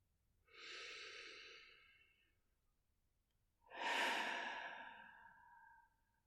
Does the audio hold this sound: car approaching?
no